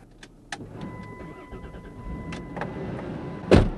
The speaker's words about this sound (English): With the engine running on a cold February night, drummer Tessie Bernay closes the door.